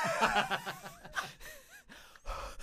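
Close, breathy exhalations and sniffing breaths right against the microphone, with a few soft whistling or squeaky tones mixed in, several irregular puffs over a couple of seconds.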